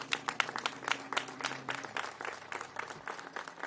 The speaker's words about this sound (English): So I also want to acknowledge that this is a present of a group of wonderful women leadership here. Can you all give yourself a big round of applause, please?